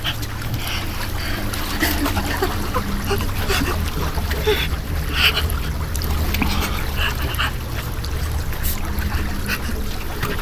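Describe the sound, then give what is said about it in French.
River water splashes and sloshes as someone wades into a river in a forest to hide, a steady churning wash with irregular bursts over about ten seconds. “Non, cache-toi dans la rivière, vite.”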